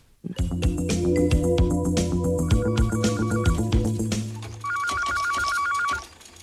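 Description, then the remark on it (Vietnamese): A telephone rings loudly with an incoming call from Mr. Dinga, the Paragem company's agent in Cameroon: a bright electronic melody plays first, then a rapid warbling trill for over a second before it cuts off. No one speaks. “Sáng hôm đó, chị ấy nhận được một cú điện thoại của ông Dinga, đại lý công ty Paragem ở Cameroon.”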